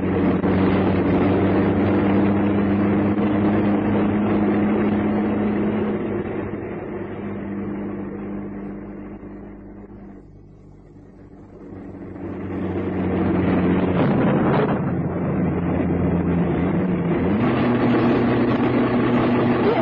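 truck driving at night

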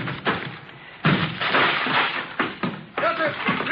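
door being broken down

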